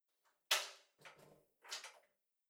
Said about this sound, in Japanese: まあ、とりあえずドア閉じて、誰か入ってきたら困るから。